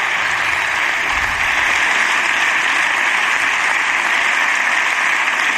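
Sustained, loud applause from the Partido Popular benches in parliament for Alberto Núñez Feijóo's final speech, a dense, steady wash of clapping that holds evenly for several seconds without pause, with no voices standing out.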